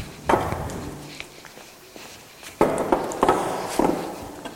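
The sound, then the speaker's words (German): A chair is dragged and set down, making a few loud wooden knocks and rough scraping bursts at uneven intervals, with quieter shuffling in between and no talking. “Ich brauche mal hier diesen Stuhl.”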